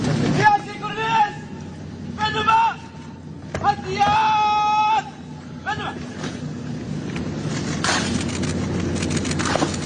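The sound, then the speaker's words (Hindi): A crowd cheers and shouts in an enthusiastic welcome for the Prime Minister in Malé, Maldives, with several loud bursts of raised voices and chant-like calls rising over a steady background of babble and outdoor noise. “प्रधानमंत्री का उत्साहपूर्वक भव्य स्वागत हुआ मालदीव्स के माले में।”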